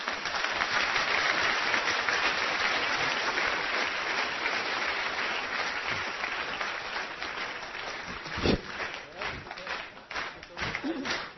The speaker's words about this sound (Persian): بچه‌ها اینقدر منو کم تشویق کردید.